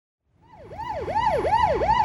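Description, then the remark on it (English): A police car siren in town, called to a bank robbery, wails in a fast, repeating up-and-down sweep, growing louder as it approaches over low rumbling road noise, with no voices. “I can hear the police car.”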